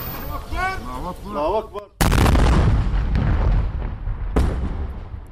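A voice shouts "Allahu Akbar", then a cannon fires a shell at enemy lines: a heavy explosion erupts suddenly and loudly, raising dust and sand and shaking the ground, rolling into a long rumbling roar, with a second sharp crack partway through as the rumble slowly fades.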